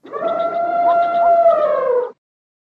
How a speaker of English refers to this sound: What is it? It's an elephant.